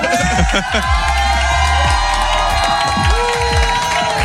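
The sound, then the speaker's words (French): A dense crowd cheers and shouts at a party in a spacious apartment filled with many people. Overlapping excited voices, whoops and chatter form a loud, continuous roar throughout. “Je vous aperçois derrière toute la foule.”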